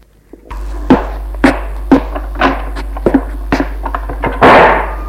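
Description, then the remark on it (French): A steady series of sharp knocks or footfalls over a low constant hum as a woman takes her clutch bag and walks out of the room, ending in one louder, heavier bang as she slams the door shut. “Elle prend sa pochette et sort de la pièce en claquant la porte.”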